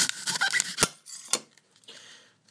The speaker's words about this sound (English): Right, you're going to come down here so you can hear the chopping going on.